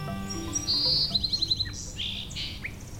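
A bird calls with a high, thin sustained whistle that breaks into a quick run of about six sharp notes, followed by a few scattered chirps over a low steady background rumble.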